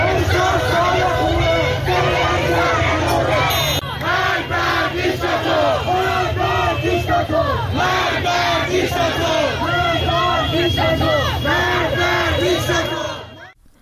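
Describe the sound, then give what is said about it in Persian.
A large crowd of protesters in Tehran, Iran, chants and shouts slogans in unison, a loud, rhythmic roar of many voices rising and falling in repeated bursts over a constant low rumble of noise. “میتونیم که صدای مردم تهران رو بشنویم.”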